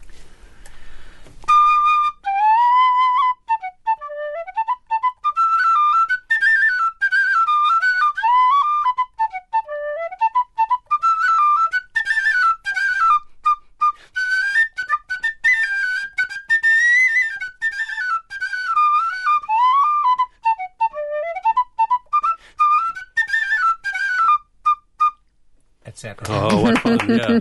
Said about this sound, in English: It doesn't look like tin to me. What is it, an expensive tin whistle made of? Rosewood and gold trimmings. That's beautiful.